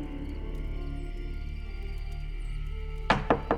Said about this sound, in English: Early the next morning, I awoke to the incessant pounding of a fist against the front door of my home.